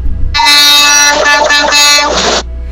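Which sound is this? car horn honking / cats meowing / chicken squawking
car horn honking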